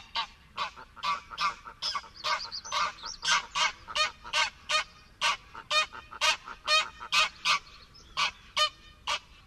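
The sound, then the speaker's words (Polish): An agitated pair of greylag geese honk rapidly and insistently at their breeding site, a dense run of loud, nasal calls, with occasional lower single honks from the females mixed in from the background. “Oto gęganie zaaferowanej pary ptaków na lęgowisku.”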